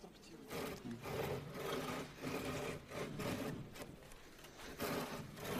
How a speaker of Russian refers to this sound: Я немножко там потер мелом, чтобы были видны лучше бороздки.